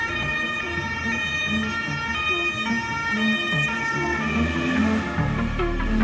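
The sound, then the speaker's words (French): Emergency vehicle sirens wail loudly and continuously as emergency services arrive at the scene on a promenade, their high tones rising and falling over a low rumble of traffic, filling the scene. “Bientôt, les sirènes et les gyrophares font déguerpir les vautours.”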